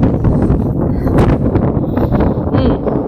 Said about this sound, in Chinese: 北方的冬天，大风天，我想可以通过这种方式去感受一下。